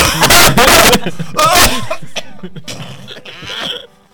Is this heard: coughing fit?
yes